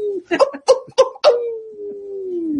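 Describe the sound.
A voice imitates a wolf: several short, choppy yelps break into a long, steady howl that holds its pitch and slowly slides lower as it fades out, fairly loud and alone.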